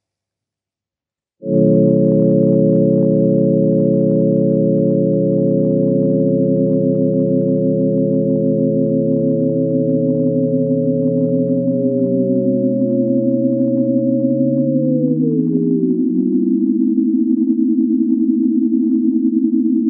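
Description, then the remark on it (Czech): A loud chord of pure sine tones starts abruptly and holds steady, then its pitches slowly slide together into a dense, clashing cluster that sustains to the end. No voices. “Harmonické a neharmonické souzvuky.”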